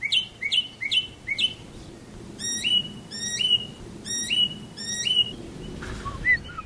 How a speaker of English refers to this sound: When I hear that four-note whistle, it sounds like a mockingbird to me, very much.